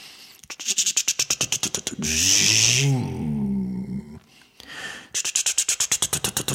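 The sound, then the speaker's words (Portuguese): A voice imitates a car engine cranking and failing to catch: rapid rhythmic sputtering bursts, then a drawn-out groaning hum, then another quick run of sputters, fairly loud. “Saí correndo, pulei o muro, que entrei no carro, o carro não pegou.”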